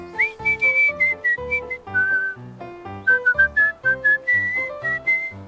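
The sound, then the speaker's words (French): A person whistles a cheerful, bouncy tune with a clear, bright tone, heard close and loud over a light rhythmic musical backing. No one speaks. “Elle se promène en sifflant dans la forêt à la recherche d'amis.”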